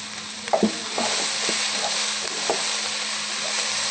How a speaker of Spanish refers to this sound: Le echamos también la cebollita de verdeo, el perejil y el cilantro. Revolvemos bien.